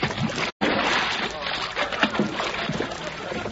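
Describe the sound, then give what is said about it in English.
A person falls out of a boat into a lake with a big splash, followed by several seconds of churning, sloshing water, with voices faintly mixed in. “I fell in the lake.”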